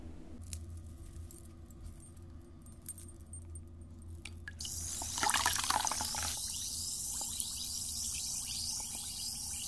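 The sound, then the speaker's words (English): Quiet low hum at first, then halfway through water in a bath starts up as a steady fizzing hiss that continues to the end, with a few faint clinks and drips. “Let's drop him in the bath.”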